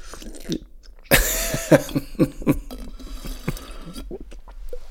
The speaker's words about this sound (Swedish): Jag ska bara suga i mig lite vatten. Gud vad det var gott. Gud vad jag ska... Fan vad gott. Nästan godare när man sörplar.